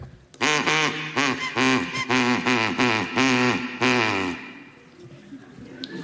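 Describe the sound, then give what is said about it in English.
A person imitates a duck, making a rapid run of about seven loud, nasal quacks, then falls quiet. “No, that was my duck.”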